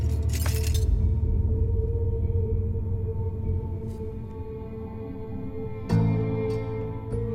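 Broken glass clinks and shatters loudly at the start, followed by a steady low hum, then a second sharp glassy clink near the end, without any voices. A piece of broken glass is being picked up from a platform.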